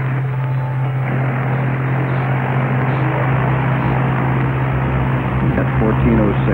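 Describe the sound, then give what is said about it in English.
A loud, steady airplane engine drone fills the whole stretch, a constant low roar with a deep humming undertone and no breaks or changes in level. “Okay, you can move that airplane back out now.”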